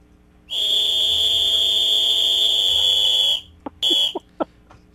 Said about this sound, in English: We need a new whistle. That one sounds feeble. That one that one needs a new P. That one needs a new P. We need a whistle bad.